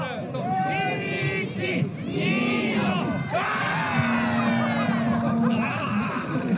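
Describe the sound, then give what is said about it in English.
At an annual winter festival in central Japan, a crowd of locals yells and shouts together in a dense, energetic roar, calling "Ready, set, go" before throwing kimono-clad husbands down a snow-covered slope, with overlapping excited voices and cheers rising and falling, loud. “Locals there are yelling, "Ready, set, go," before throwing the men down the slope.”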